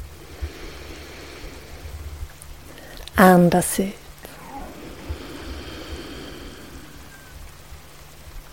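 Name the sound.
rain falling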